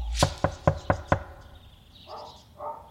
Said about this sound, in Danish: De er seks mand foran døren, da de banker på hos Lemvig i Hvidbæk.